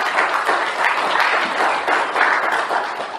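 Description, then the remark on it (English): A crowd at a service applauds steadily for a few seconds, the dense clapping at an even, moderately loud level with no voices standing out. “Can you say amen to that and give them a round of applause today?”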